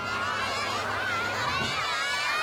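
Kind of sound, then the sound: crowd, children shouting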